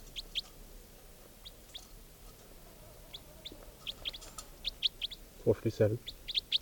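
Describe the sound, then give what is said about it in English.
Two recorded birds, numbered 456 and 457, call: one gives a steady run of short, high chirps throughout, and near the end another lets out a brief, lower, harmonic clucking call, louder than the chirps. “Both birds.”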